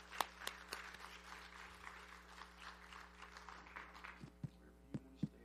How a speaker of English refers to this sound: Give a round of applause, if you would